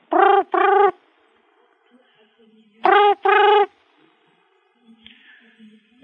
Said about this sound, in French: Tiens, tiens, le téléphone qui sonne là. Tiens, le téléphone. Le téléphone.